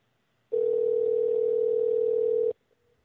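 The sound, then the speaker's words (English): A loud, steady telephone dial tone hums for about two seconds and then cuts off abruptly, followed by a few faint clicks, as a radio show host places a call to a guest. No one speaks. “And Chuck will be getting M.K. on the phone right about now.”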